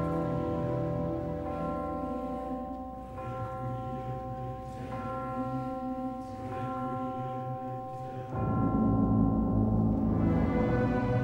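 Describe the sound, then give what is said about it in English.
Deep church bells toll for a requiem in a slow, overlapping wash of rich, sustained harmonic tones, steady and loud throughout, swelling even fuller near the end with no voices present. “What's the significance of those chimes in the background? Ah, the tolling of the bell.”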